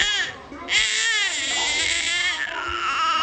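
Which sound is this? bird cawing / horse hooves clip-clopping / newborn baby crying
newborn baby crying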